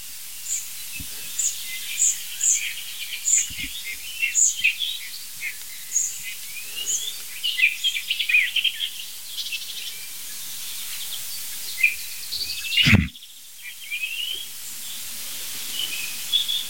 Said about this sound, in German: Nein, das ist die Nachtigall.